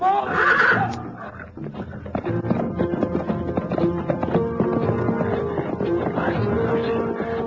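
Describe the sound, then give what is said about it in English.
A horse lets out a loud, shrill whinny as a lion attacks it, followed by several seconds of strained, harmonic cries and commotion that stays dense and loud throughout. “Get the horse away. They're after him.”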